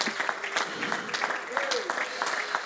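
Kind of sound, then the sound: crowd, audience hand clapping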